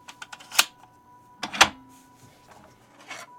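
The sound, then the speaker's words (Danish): Metallic clicks and two sharp clanks as a bank safe deposit box is unlocked and pulled open, with a steady faint hum underneath and a softer scrape at the end. “Og så åbner han en bankboks, lyder det til.”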